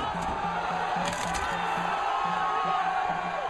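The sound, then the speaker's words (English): A large, agitated crowd of rioting Vancouver hockey fans roars and shouts in the streets after the Canucks lost the Stanley Cup final to the Boston Bruins, smashing windows, setting cars on fire and looting shops; a dense, continuous wall of noise with a low rhythmic pulsing sound repeating steadily underneath. “Enraged Canadians smashed windows, set fires to cars, and looted shops. Police had to use tear gas to contain the crowds.”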